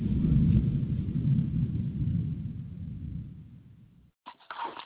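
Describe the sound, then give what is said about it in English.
A deep, rolling rumble of thunder from a passing storm stretches for about four seconds, slowly fading out before a brief pause and a short, sharper sound at the end. “Before we see this storm pull out.”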